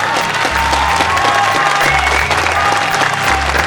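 Loud, sustained applause from a crowd at a Bhojpuri stage show, welcoming the name of a new album, dense clapping filling the whole stretch at an even level, with a low rhythmic musical pulse thumping underneath and faint cheers mixed in.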